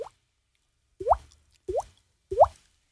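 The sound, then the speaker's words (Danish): Three hollow, rising plops, like water drops falling into a pool, made by flicking a cheek with the mouth open. They land alone at a steady, unhurried pace, fairly loud, with a faint blip at the very start. “Lav dråben.”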